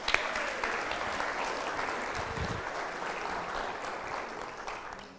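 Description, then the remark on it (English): An audience claps steadily to welcome a professional storyteller who is about to tell The Polar Express, a dense wash of many hands applauding at an even level for several seconds, with no voices over it. “So let's clap”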